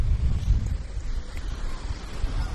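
Atlantic Ocean waves wash steadily on a beach at the Outer Banks, North Carolina, USA, mixed with blustery buffeting wind, a continuous low rumbling roar with no voices.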